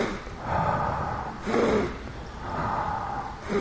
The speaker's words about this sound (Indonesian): Nah, kalau perlu nanti kita mulai misalnya dengan tarik napas yang panjang dan yang 3 kali gitu. Sesudah itu kita mulai.